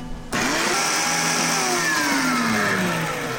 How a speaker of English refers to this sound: All right, so we've got these nice and seeded, and we're going to puree this. And if you want to, you could add a little bit of water to get the engine going. So we'll just put a little splash in here. And we're going to whiz it around.